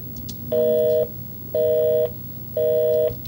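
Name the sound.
telephone call line tones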